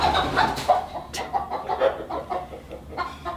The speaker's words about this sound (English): Chickens.